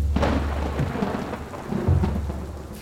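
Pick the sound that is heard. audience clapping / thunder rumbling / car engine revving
thunder rumbling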